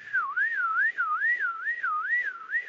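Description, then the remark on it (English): A person whistles a steady, wavering tone that rises and falls in a quick repeating cycle, imitating a car alarm going off at the back of a theatre during a concert. The whistle stays loud and even throughout, with no talking. “Anyway, about halfway through the first set, there was a car alarm going off at the back of the theatre, and it was going, you know.”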